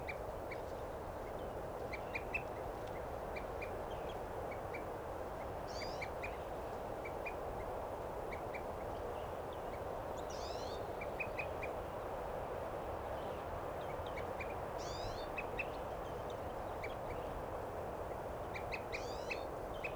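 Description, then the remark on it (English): Crossbill calls at a water hole repeat as short, steady chips throughout, with a few louder, higher whistled notes from an evening grosbeak breaking in now and then, all over a constant rushing background noise. “Now that bird's tooping, and there's a evening grosbeak there.”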